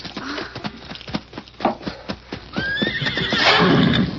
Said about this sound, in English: Here's my horse.